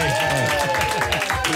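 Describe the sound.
An audience claps steadily in a dense, continuous burst of applause, with tonal music or voices sounding underneath throughout.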